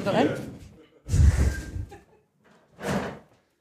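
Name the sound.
door opening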